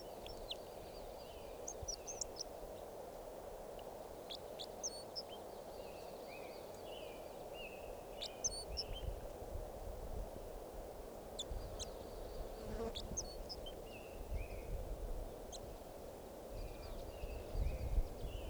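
Short, sharp call notes of a wild Red Crossbill, recorded before the bird was collected as specimen number 547, sound in scattered bursts of a few at a time, high-pitched and fairly faint, over a steady low insect-like hum that runs throughout.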